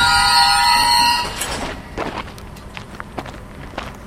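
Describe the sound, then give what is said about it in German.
A freight train loaded with scrap metal bound for the steelworks in Gerlafingen, Switzerland: a loud, steady high-pitched squeal for about a second, then scattered metallic clanks and rattles of moving rail cars, with no voices. “Jeden Tag fahren dutzende Lastwagen auf Gerlafingen und täglich auch zwei Güterzüge voll mit Schrott.”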